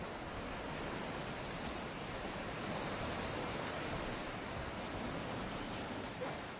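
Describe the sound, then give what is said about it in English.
Ocean waves wash steadily onto a shore in a continuous, hissing roar, with no distinct breaks between swells and no voices, holding an even loudness throughout. “Staring at those waves and dreaming again.”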